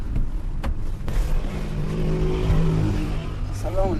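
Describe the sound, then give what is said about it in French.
A car engine rumbles loudly and revs higher as the vehicle pulls away, with a couple of sharp clicks early on and faint muffled voices near the end. “Il nous rejoint, mon traducteur et moi, dans la voiture.”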